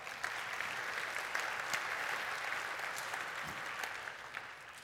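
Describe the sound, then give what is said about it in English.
A church audience in the Nashville area applauds a memorized Scripture recitation, clapping steadily for about five seconds, a dense wash of many hands at an even, moderate loudness with no voices rising above it. “You may applaud that, absolutely.”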